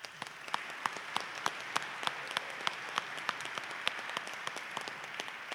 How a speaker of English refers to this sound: Round of applause. Round of applause to all our panelists.